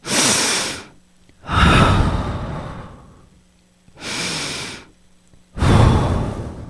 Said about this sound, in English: I tiptoed down the hallway. I could hear deep breathing.